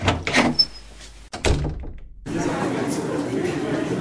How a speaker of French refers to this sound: Ah, voilà la deuxième porte. C'est écrit topic de présentation.